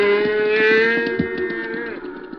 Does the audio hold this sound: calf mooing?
yes